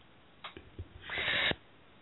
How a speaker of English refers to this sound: I was trying to clear my throat after that sickeningly sweet story.